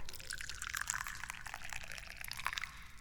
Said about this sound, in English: And I will also pour you some tea.